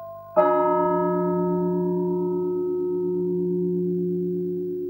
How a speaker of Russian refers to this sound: Перезвон, поочередные удары от большого колокола к малому, совершается перед особыми моментами в богослужении.